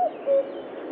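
A common cuckoo calls close by, a clear two-note falling 'cuck-oo' standing out over steady outdoor background hiss, with no one talking.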